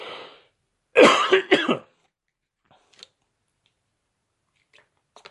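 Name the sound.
cough and throat clearing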